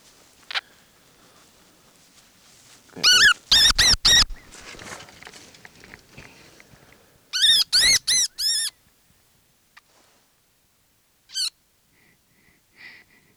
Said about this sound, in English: that was a baby wood rat